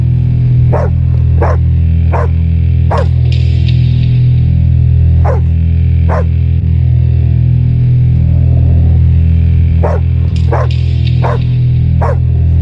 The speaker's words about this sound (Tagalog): After ilang araw, na-curious ako kasi yung aso namin lagi tumatahol sa may pinto.